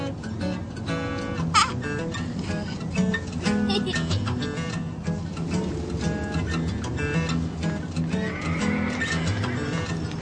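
A horse whinnies loudly, with a sharp neigh early on, while hooves clip-clop steadily underneath through a busy, continuous outdoor bed of sound.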